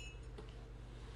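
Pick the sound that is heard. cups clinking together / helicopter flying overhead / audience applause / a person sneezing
cups clinking together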